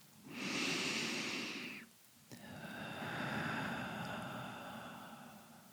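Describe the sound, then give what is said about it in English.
Two slow, deep breaths, breathing in through the crown of the head and out through the whole body: a long airy inhale, a short pause, then a fuller, steady exhale, with no talking. “And it flows through the whole body while you're breathing in and out, breathing in through the crown and breathing out through the whole body, through the feet.”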